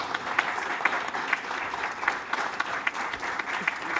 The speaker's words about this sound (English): Could you all join me in giving the panel a round of applause?